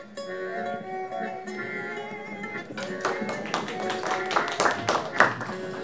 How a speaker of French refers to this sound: Vous mériteriez des applaudissements plus fortes.